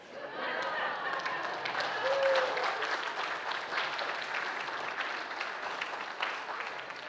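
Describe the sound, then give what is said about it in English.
An audience applauds a joke steadily for several seconds, a dense wash of many hands clapping at once, holding fairly even in volume with a faint murmur of crowd voices mixed in. “Please do not applaud for that.”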